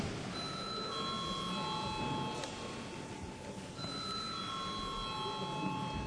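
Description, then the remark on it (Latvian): A parliament voting call bell, rung to call a vote on a draft law in its second and final reading, rings out in two long, steady electronic tones with a pause between them, sounding clearly over a low murmur of background noise. “Paldies, lūdzu zvanu.”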